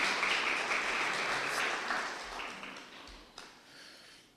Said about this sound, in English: Round of applause for my lovely assistant this morning, please.